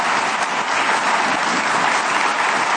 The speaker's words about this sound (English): That's worth applauding for. Go ahead. You know, it is.